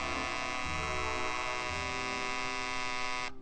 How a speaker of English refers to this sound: Yes, 10 minutes after the radio automatically goes on, the personal's alarm can buzz to make sure you don't oversleep.